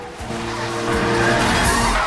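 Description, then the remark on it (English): A 4x4 and a police car roar past at speed, past a woman caught in the middle of the road, with a loud, sustained engine rush and a brief squeal of tires, intense for the whole couple of seconds, with no talking. “The 4x4 and police car speed past a terrified woman caught in the middle of the road”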